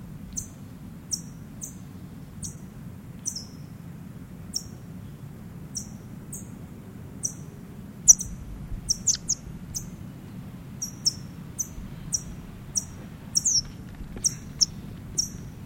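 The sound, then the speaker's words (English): A bird, just banded with a yellow bar band and held alone in a bag, gives a long series of sharp, high-pitched chip calls, repeated every half second or so, clear above a steady low rumble, with a brief burst of quicker chips midway. “Back in the bag now, alone, chipping.”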